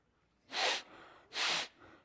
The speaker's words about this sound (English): They smell, they sniff. They're part of how we breathe, but they have nothing to do with how we see.